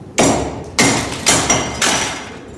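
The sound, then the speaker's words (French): Four heavy blows of a big hammer breaking open a sealed crucible, each a sharp crack with a brief ringing decay, landing about half a second apart. No one speaks. “Mais je n'y arrive pas, il est scellé. Là. Mais voyons, prenez ce gros marteau, cassez-le.”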